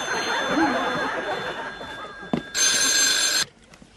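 A telephone bell rings loudly, with a sustained harsh ring in the background and a sharp burst near the end, while faint chatter and laughter murmur underneath.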